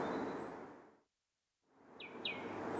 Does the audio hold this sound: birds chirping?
yes